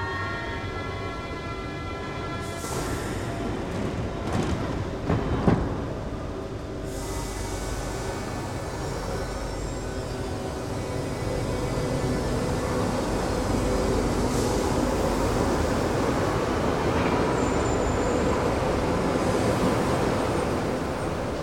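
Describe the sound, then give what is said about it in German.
A Berlin U-Bahn train on the large-profile network pulls away with a few clanks and a rising electric motor whine, then settles into a steady loud rumble of wheels on rails, with no talking. “Heute fahren im Berliner Großprofilnetz nur noch die Züge der Baureihen F und H. Zurückbleiben, bitte.”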